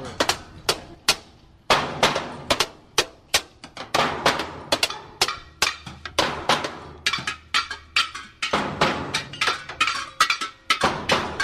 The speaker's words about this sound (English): This looks like it's the Bang on Everything jam. The Bang on Anything you can possibly bang on, including washing machines. We've got the canstrument. We've got an upside down plastic something strapped around one of the players.